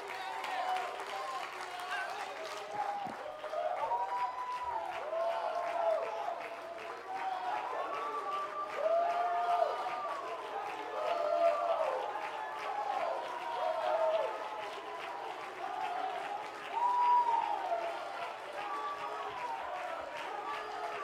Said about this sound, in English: When somebody runs, they ought to not run by themselves. When they clap, they ought to not clap by themselves.